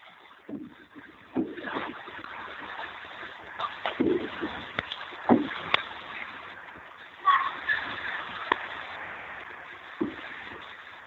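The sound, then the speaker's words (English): Repeated mysterious booming thumps, recorded in Houston, Texas, in January, sound at irregular intervals over a constant hissing, rumbling background. Some booms are sharper and louder than others, and no one speaks. “So basically, this phenomenon has been described as loud, repetitive booms.”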